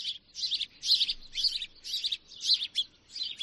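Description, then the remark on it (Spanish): Birdsong made of repeated bright, high chirping phrases in quick bursts, about seven in a row with short gaps, fairly clear over a faint low background hum. “Es el canto de las aves.”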